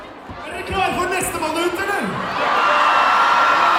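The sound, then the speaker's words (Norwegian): A large crowd at a show howls and screams continuously, voices overlapping in a loud, sustained roar that swells toward the end, with a few sharp thuds near the start. “Når du står bak deg, så hører du bare massevis av folk som hyler og skriker.”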